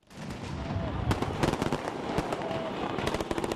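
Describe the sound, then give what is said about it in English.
Rapid, irregular bangs and pops of fireworks mixed with sharp cracks of a few celebratory gunshots lighting up the night sky in Tripoli, Libya, dense and continuous over a noisy murmur of a celebrating crowd gathered in the city's main square; some bursts loud, others softer. “Fireworks, a few bullets there lighting up the night sky in Tripoli, a sense of optimism among residents in the capital”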